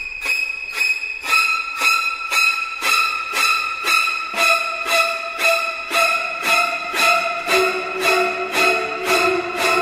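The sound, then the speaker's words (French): Music from the shower scene of Alfred Hitchcock's film Psycho: loud, piercing string stabs repeating in a rapid, relentless rhythm, shrill high notes screeching over one another with no voices. “la musique de la scène de la douche de Psychose”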